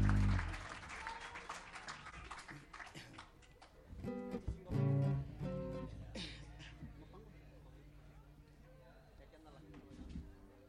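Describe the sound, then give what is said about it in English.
An audience applauds the dancers, clapping steadily throughout, a dense crackle of many hands, with voices and cheering mixed in. The applause swells to a peak midway, then gradually thins out toward the end. “Let's have a big round of applause for all the dancers, man.”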